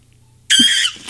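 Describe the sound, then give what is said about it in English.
A voice imitates a monkey with a single shrill, high-pitched squeal lasting under half a second, loud and harmonic-rich, bursting out of near silence with no other talk. “Would you mind bringing them onto the show real quick?”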